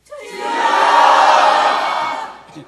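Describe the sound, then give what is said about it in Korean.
A church audience cries out loudly in prayer to God all at once, many voices merging into a dense, sustained roar that swells quickly, holds for about two seconds, then fades. “간단한데 한번 부르짖어 보세요.”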